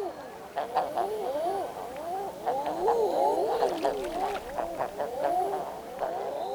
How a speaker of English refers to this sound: Those are eider ducks. You can hear them in the fjords most mornings, moving past the shore in small rafts as they dive for mussels.